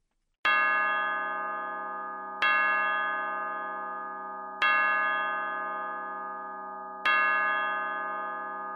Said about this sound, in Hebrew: בראש המגדל נקבעו שני שעונים. אם תבואו בשעה שלמה, עגולה, תוכלו לשמוע את צלצול השעון.